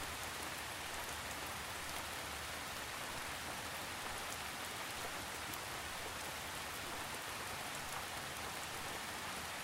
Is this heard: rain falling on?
yes